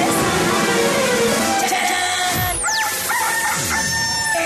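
A rooster crows loudly, its cry rising and falling across a few seconds amid a busy, noisy farmyard background with other fowl.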